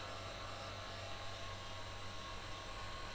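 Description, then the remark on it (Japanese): A hair dryer blows steadily, a continuous whooshing hum with a low motor drone, unchanging for the whole stretch with no talking. “だけどあなたの髪質ならヘアオイルをして優しくドライヤーしてあげるだけで随分きれいになると思うわ。”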